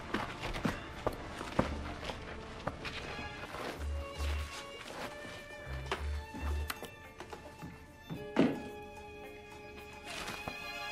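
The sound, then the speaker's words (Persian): Hammer blows striking as something is fastened: a run of sharp, irregular knocks with dull low thuds mixed in, and one louder, ringing strike toward the end. “باید محکم ببندیمش. ترتیبشو میدم. میشه چکشو بدی لطفاً؟”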